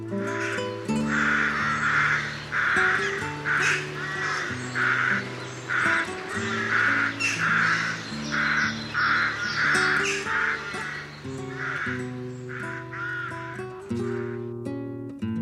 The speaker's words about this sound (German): Das war die Saatkrähe.